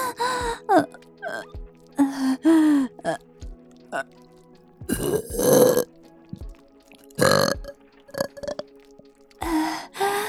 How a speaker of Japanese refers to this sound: ゲップ好き。ママゲップ、行くわよ。